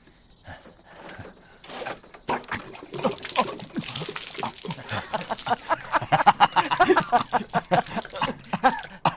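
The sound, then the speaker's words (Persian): Shower water running and splashing as someone takes a shower, a steady hiss broken by uneven spatters and drips that grow busier and louder partway through. “ای بس منم نگاه دارم دوش میگیرم پسر.”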